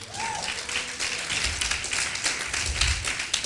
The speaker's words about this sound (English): Y'all clap for Erica.